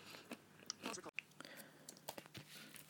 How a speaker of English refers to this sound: So I'm going to munch away on these, and then I'll be back for mains.